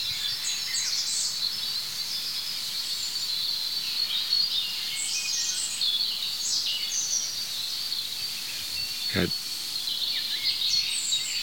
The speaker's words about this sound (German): Jetzt habe ich mich gedreht zu dem anderen Rotkehlchen, es ist gerade still geworden. Oh, da geht's los.